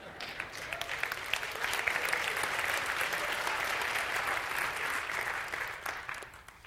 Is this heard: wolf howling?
no